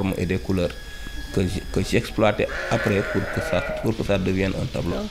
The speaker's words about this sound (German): Vom Nachbarhaus ist Hammelgeblöke zu hören.